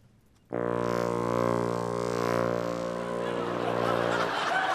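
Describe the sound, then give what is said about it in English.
A wind instrument imitates a lightsaber hum by playing its lowest note while being waved around like a stick: one low, buzzing sustained note that starts abruptly and holds for about four seconds, growing breathier and noisier toward the end. “Well, I have the lightsaber act, which is you play the lowest note... And you basically wave it around like a stick.”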